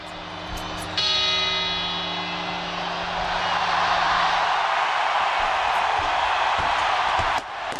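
A single deep clock bell strikes at the Puerta del Sol in Madrid, one of the twelve midnight chimes marking the New Year from 2009 to 2010, ringing out with a long, slowly fading hum over the steady roar of a large outdoor crowd.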